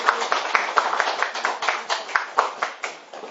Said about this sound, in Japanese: はい、それじゃあ皆さん、どうぞもう一度拍手して拍手したいと思います。ありがとうございます。